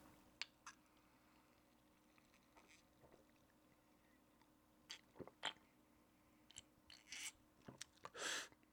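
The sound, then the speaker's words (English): Sipping an iced sarsaparilla soda: scattered small clicks and taps of ice and cup, then two short, breathy slurps near the end, with no one talking. “I'm gonna have another sip because I don't mind it now.”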